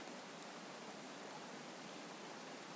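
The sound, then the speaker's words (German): A steady, even wash of rain and softly rushing brook water, a continuous hiss with no breaks or distinct drops, heard alone without any voices. “Vielleicht hörst du gerade das Bach plätschern, den Regen, die Natur.”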